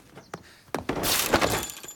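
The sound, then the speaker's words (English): Props from a play being smashed out in a garden: a few sharp cracks and thuds, then a loud sustained crash of breaking and shattering debris, with no voices. “Out in the garden, Peter is smashing all the props from the play.”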